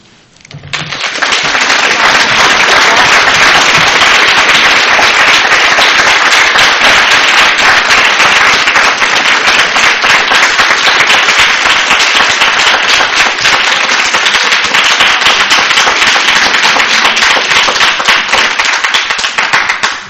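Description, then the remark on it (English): Loud, dense applause from a crowd in which many women clap aggressively during a discussion on abortion, many hands clapping fast and hard in a continuous crackling roar that holds steady for about twenty seconds with no voices. “Have a lot of women clapping quite aggressively on this issue.”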